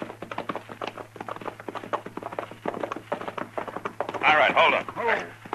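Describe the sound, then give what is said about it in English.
Horses being ridden in the dark clip-clop in a steady, brisk rhythm of sharp taps over a low constant hum, with a brief louder tonal burst, like a whinny or call, near the end. “Now, let's get these horses hobbled.”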